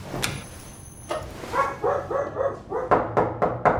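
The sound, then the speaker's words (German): A small dog named Nala lets out a quick run of short, high-pitched yips and barks, with sharp clattering knocks before and after, as it pushes into the hallway of an apartment building in Brooklyn when a door is opened. No one speaks. “Zwischen ihren Beinen drückt sich ein Hund in den Flur und wuselt um die Beine der beiden Co-Gründer.”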